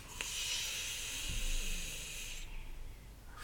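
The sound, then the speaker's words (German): A long, deep breath drawn in with a steady, airy hiss lasting about two seconds, fairly loud, then fading into quiet, during a relaxation breathing exercise. “Und wieder ein.”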